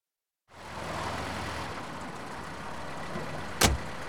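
A car engine, left running by a driver who walks away without switching it off, idles with a steady low rumble that starts after a brief silence and continues throughout, with a single sharp thump, like a door, near the end. No one speaks.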